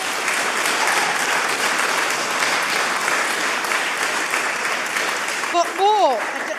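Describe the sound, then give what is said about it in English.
An audience claps steadily in a dense, sustained burst for several seconds, applauding the person who organised the volunteers for a Christmas Day lunch, with a swooping cheer or whistle rising and falling over the applause near the end. “A round of applause”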